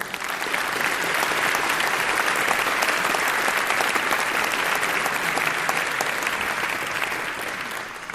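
A crowd applauds steadily for about eight seconds, a dense, even patter of many hands clapping at constant loudness, fading slightly at the very end, with no voices.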